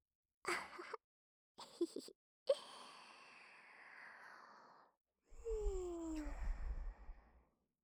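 A pet named Pipi yawns: a few short breathy puffs, a long airy exhale, then a stretched, squeaky tone that slides downward in pitch before fading out. No one speaks.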